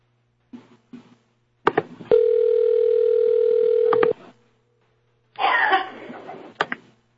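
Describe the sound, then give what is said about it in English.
A steady telephone dial tone hums for about two seconds as a call is placed to a listener who cannot call in, framed by handset clicks and a couple of short knocks, followed by a burst of rustling noise and more clicks. “She can't call in or something. So I'll just maybe we'll hear this.”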